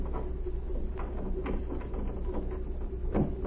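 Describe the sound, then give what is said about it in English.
A few sharp metallic clicks and rattles, like a key working a lock on an office door at a legation after midnight, followed by a heavier clunk as the door swings open, all over a steady low hum. “You can't see to unlock the door.”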